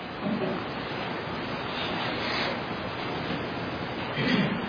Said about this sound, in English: Man, that was a strong wave. If you stand there for much longer, you're going to get another one. In fact, the longer you stand there in that sand, you're going to continue to get waves slamming, slamming, slamming.